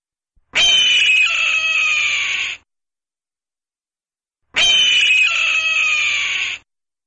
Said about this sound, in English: The red-tailed hawk's impressive piercing call is often paired with the image of an eagle in TV commercials or movies. Possibly the red-tail's piercing call is more powerful to the listeners than the high-pitched of eagles.